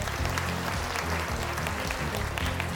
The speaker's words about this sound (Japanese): OK、 9歳の僕ちゃんは史上最年少のチャレンジャーだ。皆さん拍手。